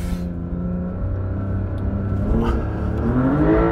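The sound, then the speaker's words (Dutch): The engine of a high-riding car with a top speed of 240 km per hour revs hard and climbs in pitch, the rising whine and rumble of a motor straining as wheels spin in loose sand, loud for a few seconds. “En eigenlijk heb je alleen op sneeuw of dit soort zand dat hij zo'n motor zeg maar, zo snel zo toeren kan maken.”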